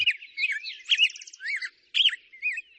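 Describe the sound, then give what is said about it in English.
Birds sing in a lively, continuous stream of high chirps, warbles and whistled trills, clear, with brief pauses between phrases and no voices. “using lawn equipment outside of morning hours when birds are singing the most.”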